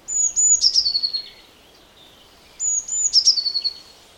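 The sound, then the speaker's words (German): Two clear bursts of high, thin bird song, each a few sharp notes followed by a rapid trill, separated by a short pause; a blue tit singing with no talking. “Das ist doch eine Blaumeise.”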